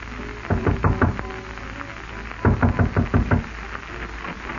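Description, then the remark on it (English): Two bursts of firm, rapid knocking on a wooden door, each a cluster of five or six sharp raps with a pause between, fairly loud against a quiet background. “And as you were lighting your pipe, the insistent knock you had anticipated came to the door.”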